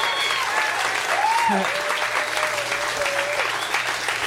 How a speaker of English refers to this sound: You guys, give these guys a round of applause. Dan Harmon, Emo Amos.